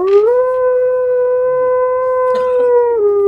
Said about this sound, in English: One night, as the party slumbers within their dwelling, a piercing howl startles them awake from a deep sleep.